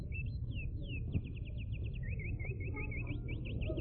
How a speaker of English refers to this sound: Those were authentic Indiana birds.